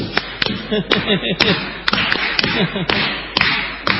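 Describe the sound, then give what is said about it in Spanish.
Around a dozen sharp hand claps land in an uneven rhythm, some in quick pairs, ringing out over a voice talking underneath; people in the queue for a hotel's shared bathroom clap to hurry the engineer inside. “El ingeniero adentro del baño oye que le hacen palmas y se da un poco de prisa.”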